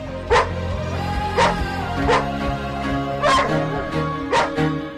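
A dog barks five times in short, sharp yelps spaced irregularly over a few seconds, with steady background music underneath.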